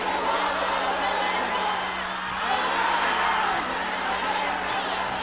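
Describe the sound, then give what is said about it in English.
A large crowd of worshippers shouts a prayer together loudly and continuously, a dense wall of overlapping chanting without pause, with a low electrical hum underneath. “I'm sure you can shout it louder than this.”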